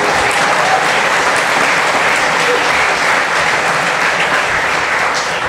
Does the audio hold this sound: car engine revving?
no